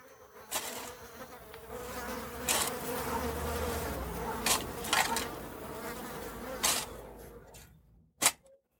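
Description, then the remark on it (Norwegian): A dense, continuous buzzing of many flies swarming, droning steadily with a few sharp clicks cutting through, then fading out near the end. No one speaks. “Og fluene svermet rundt, det var lite trivelig sted.”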